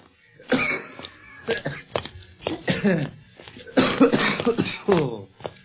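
A man fakes a coughing spell on purpose, coughing and spluttering in a long, ragged fit, a rapid string of harsh hacking bursts that rise and fall, with hoarse voiced gasps between them.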